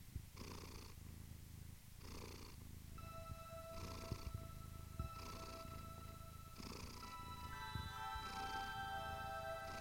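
animal, cat purring

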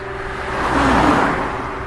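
vehicle, car passing by

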